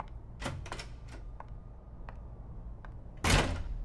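door closing

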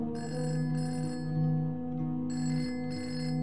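telephone ringing

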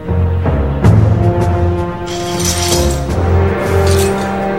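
glass shattering

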